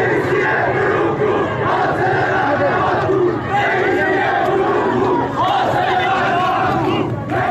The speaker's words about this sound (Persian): در دسپول، ایزه و اهواز در شب‌های گذشته معترضان اینچنین علیه مقام‌های جمهوری اسلامی شعار دادند. اینجا در شهر کرد شعارها علیه ابراهیم رئیسی بود.